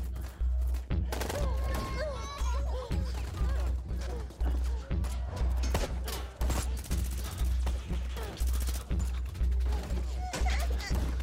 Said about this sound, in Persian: حمله کنین بچه ها. نجنبین. درشون شلیک کنین. زدن. سربازمونو زدن.